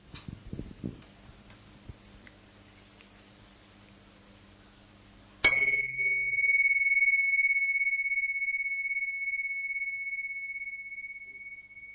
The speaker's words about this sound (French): Alors, je vais commencer comme j'aime le faire, avec un petit moment de conscience partagée au son de ce gong.